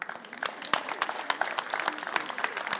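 An audience applauds steadily, many hands clapping in a dense, crackling wash with sharp individual claps standing out, sustained at moderate loudness throughout with no voices on top.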